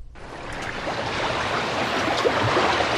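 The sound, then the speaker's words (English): A steady wash of surf rolls along the ocean shoreline in the Florida Keys, a continuous hissing roar of water that swells slightly louder over a few seconds, with no voices present. “The two of you are on the edge of the ocean.”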